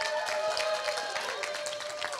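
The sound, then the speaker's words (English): A crowd bursts into sustained applause for Team 11, dense overlapping claps filling the whole stretch at a steady, fairly loud level, with no one speaking over it. “Let's give a round of applause for Team 11.”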